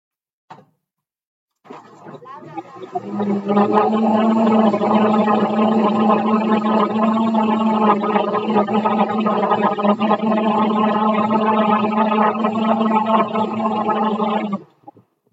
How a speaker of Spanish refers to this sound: De vez en cuando hay que ayudarle a la licuadora, porque la calabaza, pues obviamente está dura. ¿Sale? Por eso les decía que la trocemos de preferencia en trozos pequeñitos y va a depender mucho la madurez de la calabaza para poderse licuar bien.